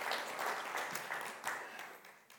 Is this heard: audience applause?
yes